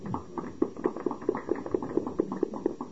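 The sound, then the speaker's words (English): Steady, evenly spaced handclaps from an audience, about four or five per second, keeping a firm rhythm at moderate loudness with no voices over them. “And thanks for the applause.”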